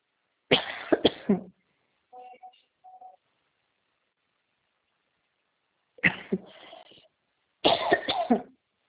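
Three close, harsh coughing bursts, each a quick cluster of several coughs, one at the start and two near the end, separated by a quiet stretch with a couple of faint, soft tonal sounds.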